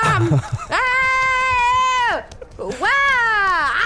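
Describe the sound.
Two long, loud, high-pitched screams from a single voice, screaming while trying to look inside her own throat. Each is sustained and wavering, and a short breathy pause separates them.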